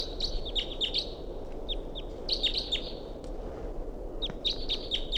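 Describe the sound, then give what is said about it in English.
Birds call to a wild bird in quick, high chirping bursts, three clusters of sharp tweets spaced over a few seconds, heard against a steady low rumble of outdoor background noise. No one speaks. “They're calling it.”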